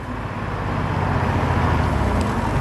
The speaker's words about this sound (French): Quelle est cette voiture? Ton chauffeur? Intéressant.